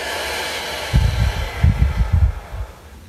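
A long, breathy exhale after a deep breath during a guided group breathing exercise, with soft rumbling puffs of air lasting a couple of seconds before fading out over a quiet background hiss.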